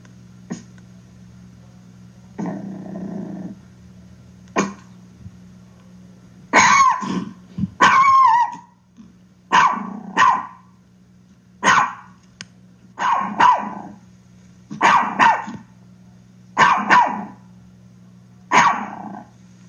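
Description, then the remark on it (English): A Chihuahua barks again and again in sharp, high-pitched yaps, loud bursts coming in a steady rhythm after a short growl, with no one speaking over it. “They are little barkers, but they do bark a lot, and this is what they sound like.”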